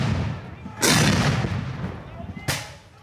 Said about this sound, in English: Men dressed in Union and Confederate uniforms line up on either side of a long field. They carry rifles and flags and push cannons into position. Then the fighting begins.